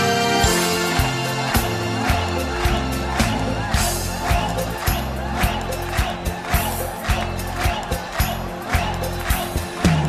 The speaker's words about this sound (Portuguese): Alegria, minha gente! Quero ouvir só as palmas agora!